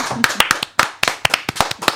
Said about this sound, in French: Ça mérite beaucoup d'applaudissements.